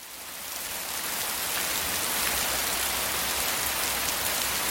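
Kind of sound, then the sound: nature, rain falling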